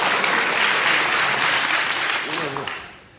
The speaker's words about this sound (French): Et puis pour rien arranger, j'ai horreur qu'on m'applaudisse. Je vous dis tout de suite. Allez, je m'applaudis.